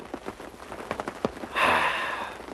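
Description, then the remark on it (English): Scattered light taps give way to a sudden steady hiss of rain coming down, loud, continuing to the end with no voices. “Well, I'm not gonna let a little rain stop me.”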